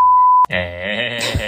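A single steady, high-pitched censorship bleep covering a speaker's words sounds for about half a second, then cuts off abruptly as a loud, drawn-out voice takes over.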